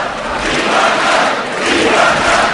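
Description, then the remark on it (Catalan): A large crowd shouts freedom and independence chants together in a loud, steady roar, the collective voices swelling in waves over a couple of seconds, in the Plaça del Blat in Valls on the Santa Úrsula festival day. “Crits de llibertat també des de part del públic, realment la plaça ha estat un clam.”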